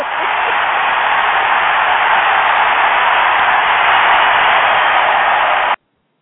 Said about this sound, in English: Man, cue the crowd.